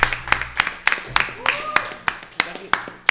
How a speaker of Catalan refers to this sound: Un aplaudiment, home,